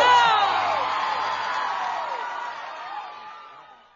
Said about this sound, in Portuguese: Uma salva de palmas para vocês.